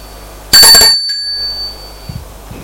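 A doorbell gives a single loud, bright metallic ring that hangs on as a high, clear tone and fades over about a second, followed by a couple of faint soft knocks.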